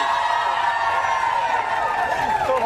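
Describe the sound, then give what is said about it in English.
An audience cheers and whoops loudly for Chris Colfrey, a steady wash of crowd noise with high shouts rising over it, sustained for a few seconds. “You can cheer for him.”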